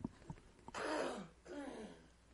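A harsh throat clearing: a few short clicks, then two long raspy rumbling scrapes of the throat, loud and gravelly, with no talking.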